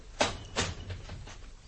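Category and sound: household object, door being closed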